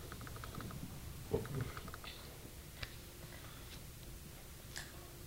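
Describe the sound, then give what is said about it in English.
Quiet munching on a soft banana and Nutella snack: irregular little clicks, smacks and crackles of chewing, with a couple of slightly sharper ticks, over a low hum and no talking. “I'm just hearing this munching in my ear right now.”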